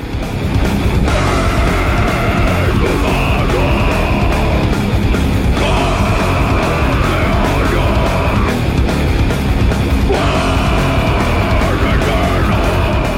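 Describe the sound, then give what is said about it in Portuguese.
A heavy metal band track plays loudly and continuously, a dense wall of distorted guitars and pounding drums, with the riff shifting to new chords every few seconds. “Vamos escutar mais um pouquinho.”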